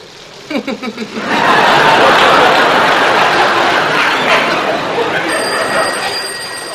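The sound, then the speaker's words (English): Heavy rain pours down outside in a steady, dense roar after a brief burst of voice-like sounds, staying loud throughout as a thin, high ringing tone enters near the end. “Listen to that. It's raining cats and dogs out there.”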